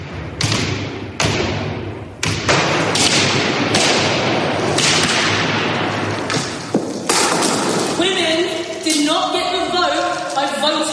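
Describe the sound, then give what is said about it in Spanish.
Two young Just Stop Oil activists strike a Velázquez painting with hammers: roughly seven loud, sharp cracking impacts at irregular intervals over a background murmur of voices, with raised, shouting voices rising toward the end. “ver y oír cómo estos dos jóvenes, estos vándalos de un movimiento ecologista que se opone al uso del petróleo, se llaman Just Stop Oil, la emprenden a martillazos con la obra de Velázquez.”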